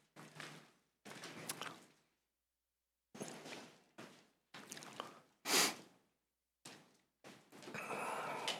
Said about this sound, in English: I still hear a lot of pages turning.